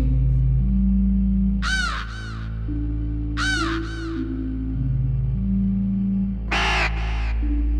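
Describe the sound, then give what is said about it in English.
A raven caws three times, each harsh call spaced a couple of seconds apart, over a steady low droning musical bed that fills the background throughout. “I can hear it cry.”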